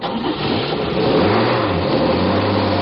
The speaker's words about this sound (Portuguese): Não é a primeira vez que o ônibus passa vazio.